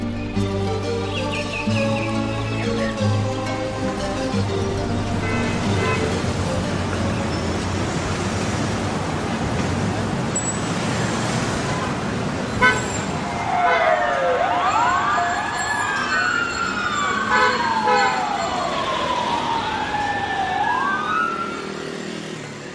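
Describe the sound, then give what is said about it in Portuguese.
Dense traffic in a large Brazilian city rumbles throughout, engines and horns blending, while a wailing emergency siren rises and falls loudly in the second half, sweeping up and down several times as it passes. “Maiores desafios nas metrópoles brasileiras é enfrentar o trânsito nosso de cada dia.”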